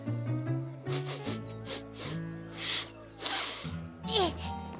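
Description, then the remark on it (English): A dog sniffs at a cookie in a few quick, breathy bursts, then one longer snuffling sniff, all over a steady background of cheerful music. “I just want to look at it. And one little sniff couldn't hurt.”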